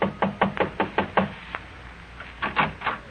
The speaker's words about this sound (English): An hour after phoning her, you drive to a modest little apartment building on Fountain Avenue near Coenga. Curious, but still cautious, you knock lightly on the door.